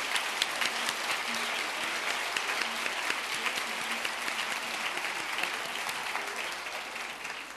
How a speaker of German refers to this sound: Ich möchte noch eine Frage stellen, und zwar, wer von euch ist das allererste Mal hier in Altensteig bei so einem Frauentreffen? Steht mal bitte auf, dass wir sehen und euch einfach einen Applaus geben.